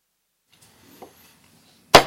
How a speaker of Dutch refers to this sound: De hamerslag, goedenavond iedereen, ook mensen op de tribune. 7 november 2019, de raadsvergadering van de gemeente Uithoorn.